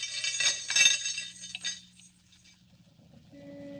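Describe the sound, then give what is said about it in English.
Metal handcuffs clink and jangle in a quick burst of bright, rattling chinks, fading into a low steady hum with a faint tone near the end. “Handcuffs, eh?”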